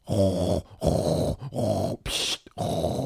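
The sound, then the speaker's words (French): A person fakes loud snoring: four rough, rasping snorts in a steady rhythm, separated by short pauses and one airy, hissing exhale, with no talking. “Ah si, monsieur le spécialiste, je ronfle, et quand je ronfle, c'est que je dors.”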